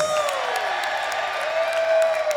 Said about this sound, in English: That was a great round of applause. Let's do it again.